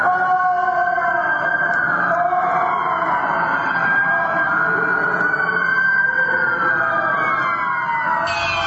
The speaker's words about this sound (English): This is where we started hearing things, and what I did was I went into the audio and I tried to minimize the frequency and the sounds of the sirens.